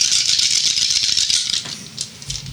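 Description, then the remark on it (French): Dice rattle steadily for about a second and a half, a dense bright clatter, then a few sparser clicks as they settle, with no voices over the sound. “Ah, t'as fini de lancer ton jet pis t'as une tendinite. Parce qu'il y avait des dés.”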